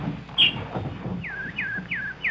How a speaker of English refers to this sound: Hello, pretty nightingale. Don't you want any seed? No? You just want to sing. Go ahead, you beautiful thing. Sing your little heart out.